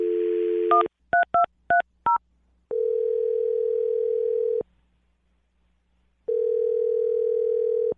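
A dial tone cuts off into a quick series of five touch-tone beeps as a phone number is dialed for a call on the radio show Brooke and Jubal in the Morning, followed by two long, steady ringback tones separated by a pause.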